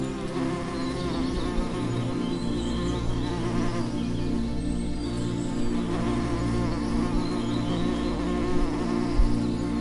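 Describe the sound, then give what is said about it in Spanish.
A steady, soft buzzing of bees hums continuously throughout, low and droning with no pauses, like several bees hovering around; no one speaks. “A medida que caminas por este jardín, siente la presencia de las abejas zumbando suavemente a tu alrededor.”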